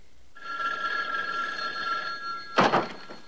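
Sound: telephone ringing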